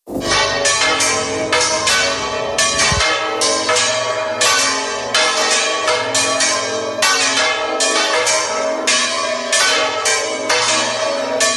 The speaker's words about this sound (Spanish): El pasado lunes las campanas de muchas zonas de la España vaciada sonaron al unísono con motivo del 31 de marzo, que es la fecha del Día Internacional contra la Despoblación.